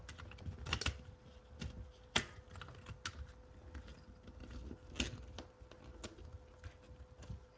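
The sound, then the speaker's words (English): Irregular clicks and crinkly taps as tape is pressed down onto a circuit board with an Atmega 328B chip and a main CPU socket, with sharper snaps scattered throughout over a faint steady hum; no one speaks. “So this is when I'll tape it down.”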